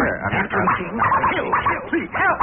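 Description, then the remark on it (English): A dog, urged on to attack a man, barks and yelps excitedly in a rapid, unbroken string of short, high yips and whines. The sound is loud and thin, like an old recording. “May I ask you a question while your dog is looking over the rhododendron?”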